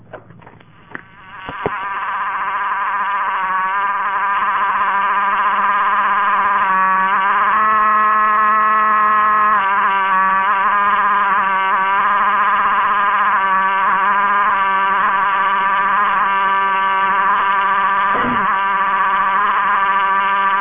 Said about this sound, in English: You listen to the dial tone come on, and in STEP, dial tones don't usually come on quite this fast. Now I'll let you listen to the dial tone, which is has just a wonderful tone quality.